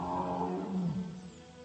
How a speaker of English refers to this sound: The tiger is answering them.